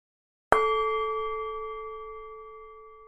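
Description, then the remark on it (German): A single meditation gong is struck once to end a meditation exercise, ringing out with a bright metallic tone that sustains and slowly fades in a long, steady decay. No one speaks. “Ich beende die Übung mit dem Gong.”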